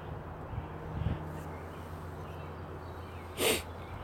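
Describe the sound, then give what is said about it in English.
A single stifled sneeze in Franklin after a short walk, a short, muffled burst of breathy noise, preceded by a faint sniff against a steady, quiet outdoor background with birds. “Got a sneeze coming, so I may have to hold and pause.”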